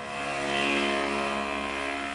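A small pocket bike engine runs with a loud, buzzy droning tone, its pitch holding fairly steady with a slight swell partway through, with no voices.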